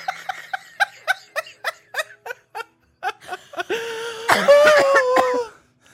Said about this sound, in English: I have to cough.